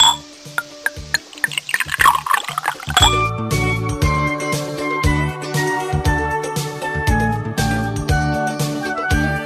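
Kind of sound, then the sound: nature, water splashing and trickling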